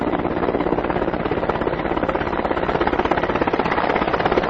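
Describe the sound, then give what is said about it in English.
A helicopter carrying food supplies sweeps across a valley floor just before noon, its rotor thumping in a fast, steady beat over a loud, constant engine roar, holding at the same strong level throughout, with no voices. “And finally, just before noon, the helicopter sweeps across the valley floor.”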